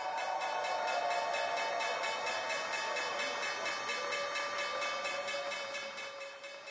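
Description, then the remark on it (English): A stock exchange opening bell, rung on a Monday morning by the luxury brand Zegna as it goes public through a SPAC deal, rings continuously with a rapid, rattling metallic clang, loud and steady for several seconds before easing slightly at the end; no one speaks over it. “But here is the opening bell on this Monday.”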